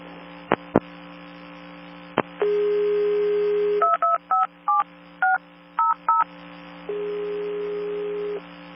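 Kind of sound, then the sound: signal or alarm, telephone keypad dialing tones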